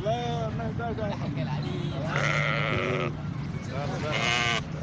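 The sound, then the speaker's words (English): Several sheep bleat in overlapping, wavering cries along a main road leading in or out of Khartoum, Sudan, as families prepare for the Eid al-Adha feast, with two long loud calls standing out, set against a busy outdoor background of steady crowd murmur and low rumble. “Hundreds of heads of sheep could be seen along main roads leading in and out of Sudan's capital, Khartoum, Thursday, as family prepared for the Eid of Al-Adha feast.”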